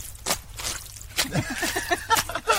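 Boots squelch through wet, slippery mud after a couple of days of rain, in a few wet, sucking steps, with soft squishes and drips between them and a faint voice murmuring in the background.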